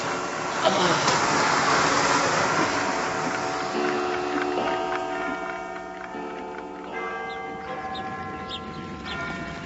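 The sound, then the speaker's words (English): A vacuum cleaner runs with a steady whooshing roar as someone vacuums around a person, its motor whine settling into a sustained, even drone throughout with no pauses. “I'll vacuum round you.”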